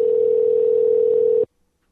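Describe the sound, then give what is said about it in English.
A steady electronic phone tone hums for about a second and a half, loud, then cuts off abruptly into silence: the ringing heard while placing a call to reconnect a dropped caller during a live broadcast. “As we wait for the ringing.”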